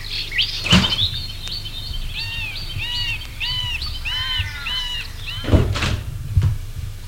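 A double French door of a house clunks open near the start, then bumps and latches closed a few seconds later as people enter, while birds chirp and tweet steadily in the background throughout.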